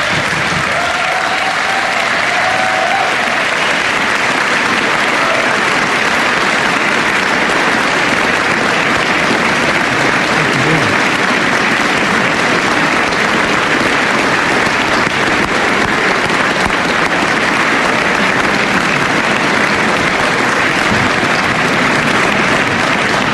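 Sustained audience applause for a group of guests present tonight, a dense steady wash of clapping from a large crowd that holds at a fairly loud, even level for over twenty seconds without any talking.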